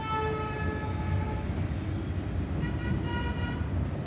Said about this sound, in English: Yes, that's right. A bus station in Tegucigalpa, the capital of Honduras.